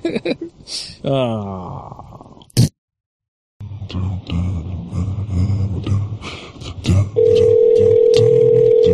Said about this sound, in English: Waiting for the receptionist to answer the phone.